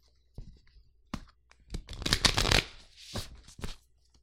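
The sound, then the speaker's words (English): A deck of cards being shuffled: a few quick riffles and taps, then a dense flurry of crisp flapping, and a final short burst of card clicks. No one speaks. “I would shuffle the deck.”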